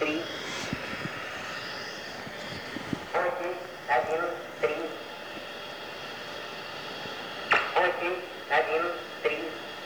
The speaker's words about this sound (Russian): существовали такие радиостанции, которые на частотах обычных гражданских приемников просто диктовали числа. Урбанистическая легенда говорит о том, что это передавали секретные сообщения шпионам. Ну вот, если вам интересно, можно одну послушать.